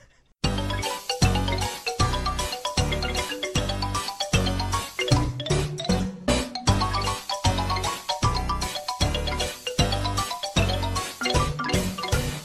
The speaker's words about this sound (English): Oh, the chime's going right now.